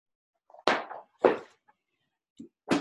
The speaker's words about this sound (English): I had books all over my lap, so I stood and they fell all over the place.